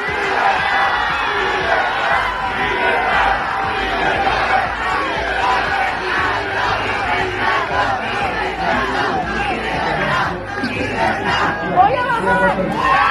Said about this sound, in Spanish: En la capital noruega, grupos de personas la han recibido entre aplausos al grito de libertad después de que ayer recibiera el Premio Nobel de la Paz que tuvo que recoger su hija.